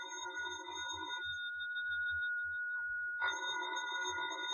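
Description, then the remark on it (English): A telephone rings loudly with steady electronic tones, pausing briefly before the ringing resumes, while a low pulsing rumble runs underneath. No one speaks. “Well, ain't you going to answer the phone?”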